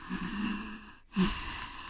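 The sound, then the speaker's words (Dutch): A voice demonstrates ujjayi breathing, an ocean-like throat breath done with the mouth closed during pranayama: a long, steady hissing exhale through a constricted throat with a low rasp, a brief pause, then another rasping breath begins, fairly quiet. “Dus dan doe ik vaak de ujjayi ademhaling. Dus dat je een beetje die oceaan geluid...”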